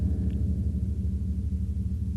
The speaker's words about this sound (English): Yeah, you can get two tones out of the one bell, which is quite incredible. Mm-hmm. Yeah, and beautiful tones.